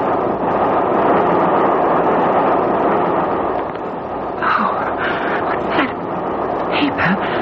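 Steady rumble of a moving passenger train carriage on the non-stop 9:08 train from Brighton to Victoria as the train starts to sway, a broad continuous roar that holds throughout, with brief higher squeaks and clatters surfacing toward the end.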